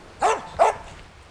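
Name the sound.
dog barking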